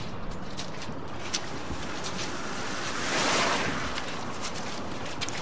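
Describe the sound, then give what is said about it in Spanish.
Steady rain falls at night in a dense, continuous hiss with scattered crisp patters, briefly swelling louder midway, with no voices present. “Es de noche y llueve.”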